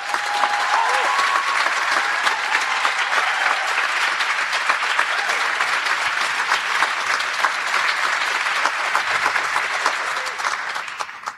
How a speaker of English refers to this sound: Please give yourselves and this crew a big round of applause to kick us off.